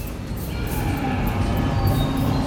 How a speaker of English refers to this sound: It's a stampede! As the rumbling sounds descend on the Sun Village, daily life comes to a sudden halt. Stampede! Stampede!